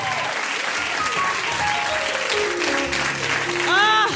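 An audience at a live show applauds steadily and loudly for several seconds, a dense wash of clapping with scattered cheers and whistles, and a shout rising over it near the end.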